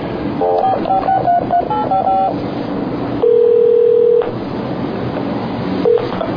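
telephone keypad dialing tones

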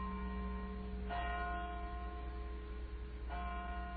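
church bells ringing

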